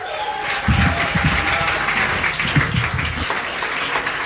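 Steady applause from an audience, a dense rush of many hands clapping at an even, fairly loud level throughout, with no voices standing out.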